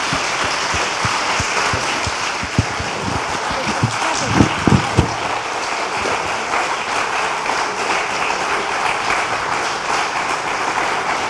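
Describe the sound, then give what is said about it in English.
Sustained applause from a large audience at Mount Stuart, thanking two speakers after an hour-long session: a dense, steady wash of clapping with a few sharper claps standing out partway through before it continues evenly to the end. “if we can just have a round of applause for David and Rachel”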